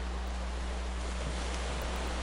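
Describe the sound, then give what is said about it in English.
Ocean water washing against a shore as a steady, soft hiss of surf, continuous over a low rumble, with no distinct individual waves standing out and no voices. “Hear the rhythmic ebb and flow of the waves as they caress the shoreline.”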